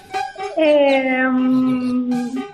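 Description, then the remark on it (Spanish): A dog lets out a long, drawn-out howl in protest, rising and then sagging in pitch, loud, after a couple of short yelps at the start. “Ahí le vemos protestar.”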